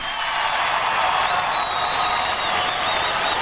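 Steady, dense applause from a crowd fills the whole stretch at an even loudness, with a faint high whistle-like tone gliding above the clapping partway through.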